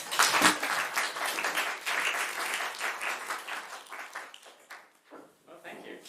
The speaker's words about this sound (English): One round of applause.